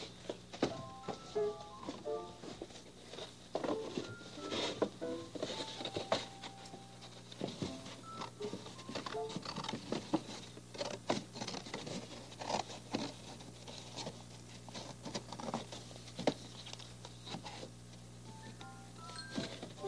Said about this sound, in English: Oh, scissors.